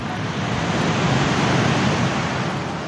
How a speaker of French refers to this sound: Et c'est vrai qu'il n'y a pas plus reposant que le bruit des vagues sur la plage.